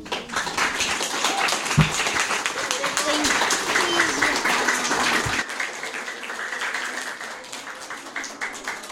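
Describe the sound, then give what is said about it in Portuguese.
A class of ten-year-old fifth-year pupils bursts into applause at the end of a reading session, many hands clapping in a dense, steady patter that stays loud throughout, with some voices mixed in and a few sharper thumps. “Vocês querem bater palmas?”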